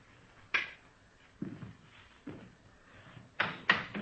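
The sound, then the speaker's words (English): The door of a room being opened for police officers, with a series of sharp clunks and rattles spread over a few seconds, ending in two louder knocks of the latch and frame. No one speaks. “Go ahead, open the door.”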